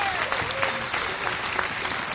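A crowd applauds steadily, a dense wash of many hands clapping at an even loudness throughout, with a faint voice briefly audible beneath.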